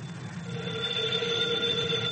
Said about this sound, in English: Oh, the telephone.